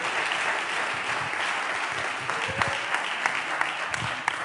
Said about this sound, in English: Give them a hand clap.